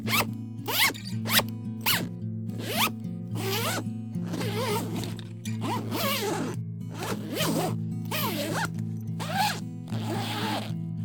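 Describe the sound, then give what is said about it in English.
Repeated zipper pulls on a VR jumpsuit, a quick series of short rasping zips followed by longer drawn-out ones, over a steady low hum with no one speaking. “This is crazy. This is way too many zippers.”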